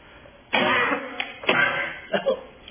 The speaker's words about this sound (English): How about those who don't like the way I handle the microphone when I cough?